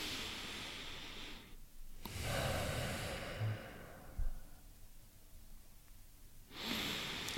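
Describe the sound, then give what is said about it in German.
Heavy, deliberate breathing: a few long, noisy breaths with brief pauses between them and a quiet stretch before the last one, with no talking. “Herhock und weißt du, so schnaufen, bewusst schnaufen.”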